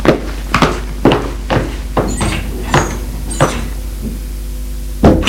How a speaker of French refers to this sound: Et traverse la cour pour ouvrir la porte.